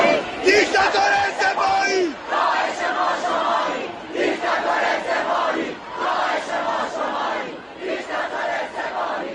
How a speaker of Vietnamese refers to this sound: Những người biểu tình đã hô vang các thông điệp chống tham nhũng, cáo buộc chính phủ che đậy tin tức này.